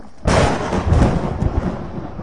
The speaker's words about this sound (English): Jason's answer was interrupted by a shattering thunderburst that sounded like the whole sky had exploded.